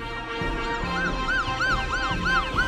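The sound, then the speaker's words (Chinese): A police car siren wails in quick, repeating rising-and-falling sweeps, loud and steady over a low rumbling undertone, with no voices, as police arrive at a home where a crocodile is loose in the garden. “警察呜啊呜啊就来了。”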